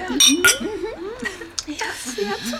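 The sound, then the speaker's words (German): Glasses of sherry clink together in a toast to the host's hospitality at a meal, a couple of bright ringing taps at the start, with people talking over and after them. “Ich erhebe mein Glas auf Ihre Gastfreundschaft.”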